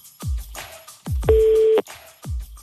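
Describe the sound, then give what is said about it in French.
A single short burst of a telephone ringing tone on an outgoing call from a France Bleu radio show to a listener in Bartenheim, clear and steady, set among deep, booming thuds that pulse at regular intervals. “Faut qu'il décroche. Sinon, pas de montre. Combien déjà de sonneries? 4 déjà.”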